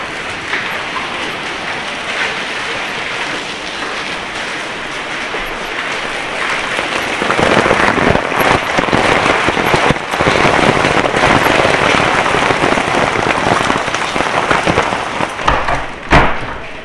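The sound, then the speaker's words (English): Hail pelts down outside, leaving a little water on an entrance, in a dense, steady clatter of countless small impacts, growing louder and harsher partway through and continuing without pause. No one speaks. “There's hail and a little bit of water on it.”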